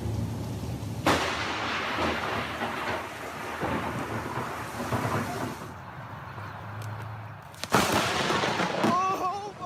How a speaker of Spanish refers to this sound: A veces, cuando el trueno suena durante mucho tiempo, es emitido por un rayo que no ha llegado al suelo, sino que ha permanecido dentro de la misma nube. Los científicos llaman a esto relámpago intranube.